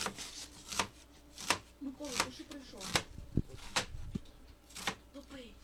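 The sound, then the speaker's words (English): A knife chops steadily on a cutting board as volunteers dice herbs for vareniki, Ukrainian dumplings, sharp taps landing roughly every second, with faint voices and murmur underneath. “Volunteers peel and mash potatoes, dice herbs, and saute onions that will go into the savory dish.”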